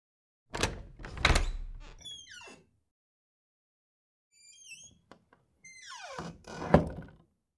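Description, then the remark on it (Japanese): A door opens with a couple of heavy clunks, followed by high, squeaky hinge creaks and a final louder rattle and thud. It is clear, with no talking. “あなたはドアを開けます。”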